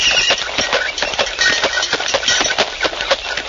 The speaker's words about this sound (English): In the year 1896, milk was delivered in a horse-drawn milk wagon.